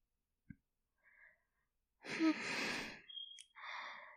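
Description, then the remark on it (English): Slow, airy breathing: a soft click and faint rustle, then a long breathy exhale lasting about a second, followed by a second gentler breath. No talking. “Just keep on breathing in and out, that's it.”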